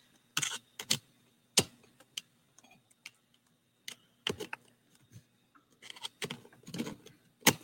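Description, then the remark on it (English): A headset being plugged in and handled: a scattered series of sharp clicks, taps and small knocks at irregular intervals, with faint rustling between them and no voices. “but I am going to switch to my headset.”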